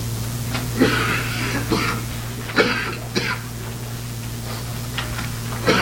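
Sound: cough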